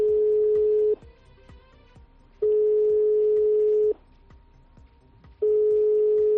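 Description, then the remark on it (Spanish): A telephone busy signal heard when calling a closed local business that does not answer the phone: a steady, mid-pitched electronic tone sounding in three long bursts with equal pauses between them, over a faint background of clicks and hiss. “Una situación que se repite en el resto de negocios de hostelería y restauración de la zona y también en los negocios, por ejemplo, de alquiler de material, que no contestan ni al teléfono.”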